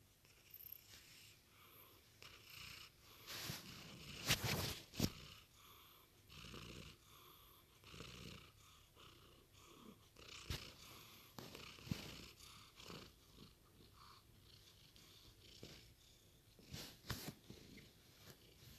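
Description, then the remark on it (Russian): A small kitten purrs steadily, a soft rhythmic rumble with breathy pulses rising and falling for the whole stretch, with no voices. “И это кошечка моя маленькая.”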